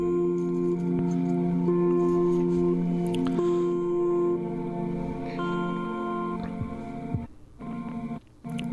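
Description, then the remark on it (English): An ambient music album played from the Bandcamp site: sustained, slowly shifting ambient drones hum at a steady, fairly full level, layered with soft wet squishy and dripping textures, then briefly thin out and dip near the end. “I'm playing it off the Bandcamp site, which I recommend.”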